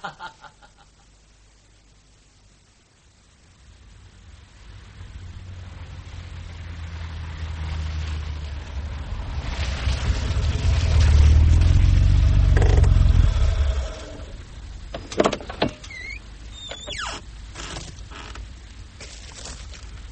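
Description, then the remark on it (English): A Mercedes car engine rumbles, approaching and growing louder for several seconds, then cuts off abruptly at a hotel door, followed by a few sharp clunks like a car door shutting. No one speaks. “Does our carriage await us? Our Mercedes is at the hotel door, ma'am.”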